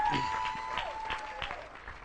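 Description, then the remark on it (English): An audience applauds steadily as a hand of praise to the Lord, a dense patter of many hands clapping at a fairly even loudness, with a faint sustained tone running underneath. “Let's give the Lord a hand of praise.”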